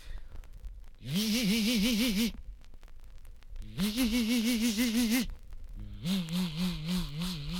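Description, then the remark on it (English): A voice imitates a 1968 Ford Fairlane starting, a blue two-door with a black vinyl top and three-speed column shift, in three loud, buzzy bursts, each a wavering, rumbling hum that rises and sags in pitch like an engine revving, with short pauses between. “68 Ford Fairlane, two-door, blue with a black vinyl top, 3-speed on the tree, and an FM radio in it.”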